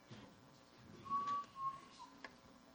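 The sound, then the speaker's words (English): A game-call whistle used for calling coyotes is blown in one steady, clear tone lasting under a second, then trails off, with faint clicks and handling noise around it. “I've got a whistle. Andrew has a whistle. My dad is a nice kid, and we used to call the coyotes with this”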